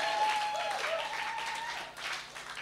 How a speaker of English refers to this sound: I want you to clap for all the mothers. Clap for the mothers in Jesus' name. And what I mean is clap for all the ladies in the name of Jesus.